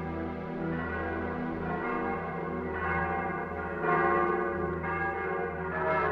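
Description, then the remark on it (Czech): Several evening church bells ring together in a sustained, overlapping peal somewhere deep among the streets and alleys of Stínadla, a quarter of the city, their rich harmonic tones blending into a continuous wash with repeated strikes swelling every second or so, steady and moderately loud. “Někde v hloubi moře ulic a uliček se teď rozezněly večerní zvony.”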